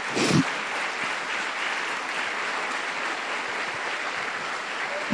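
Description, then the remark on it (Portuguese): Sustained applause for Jesus from a crowd, a dense steady patter of many hands clapping at an even loudness for several seconds, with no voices standing out. “Tu quer dar uma salva de palmas para esse amado Jesus?”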